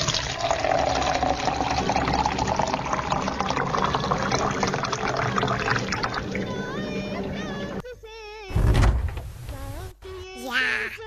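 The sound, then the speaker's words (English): Water splashes and pours steadily for several seconds as a character fetches water, followed by a louder splash and some warbling, sliding tones near the end. “Hood Hood will fetch water for her and teach her a swimming lesson at the same time.”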